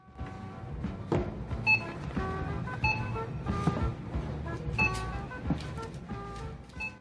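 A few short, bright scanner beeps chirp at irregular moments at a store's checkout cash register, over a steady hum of busy store background noise and faint murmuring.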